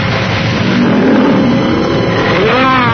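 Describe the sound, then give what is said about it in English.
An aqua scooter engine roars loudly and steadily, its pitch climbing in a sharp rev toward the end, with no voices. “Wait, the aqua scooter.”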